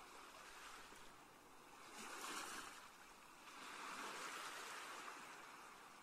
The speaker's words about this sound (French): Les vagues s'échouent à vos pieds dans un mouvement régulier et vous rafraîchissent délicieusement. Vous appréciez l'écume qu'elles abandonnent sur le sable avant de rejoindre cette mer apaisée, mais tellement vivante.